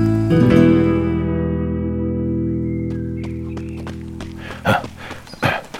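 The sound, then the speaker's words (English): A sustained musical chord rings out and slowly fades, then a few hollow hoof clops of a horse being led on foot along a well-defined game trail land near the end, spaced unevenly like a slow walk. “Joe Fox jogged along a well-defined game trail, leading his horse behind him.”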